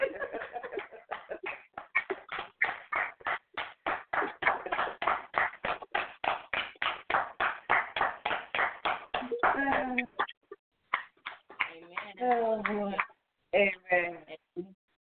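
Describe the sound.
A group claps in a steady, brisk rhythm for about ten seconds, the claps loud and sharp, before the clapping stops and people's voices take over.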